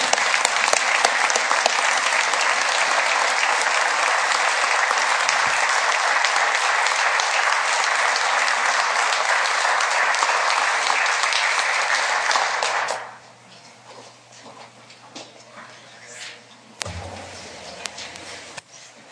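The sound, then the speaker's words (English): Sustained applause from a sizable audience for a group of pages, a dense, steady wash of many hands clapping for about thirteen seconds before cutting off abruptly, leaving quiet room noise and a few faint thumps. “Can I get a round of applause for these pages?”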